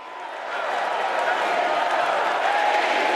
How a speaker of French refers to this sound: We love you, Joe. Voilà ce que scandent les participants. Joe Biden donc ovationné, applaudi, remercié.